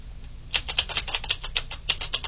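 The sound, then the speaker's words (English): Rapid, uneven clicking of keys on a loud keyboard, roughly a dozen sharp taps in quick succession as an outgoing SMTP server address is typed in, with no voices. “The keyboard is actually quite noisy.”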